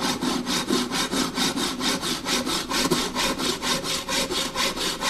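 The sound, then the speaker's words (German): Carpenters saw the last wooden shelf boards to size with a hand saw while fitting out a shop before its opening, steady back-and-forth strokes, about two per second, loud with a rasping, even rhythm throughout and no voices. “Die Schreiner sägen die letzten Regalbretter zurecht.”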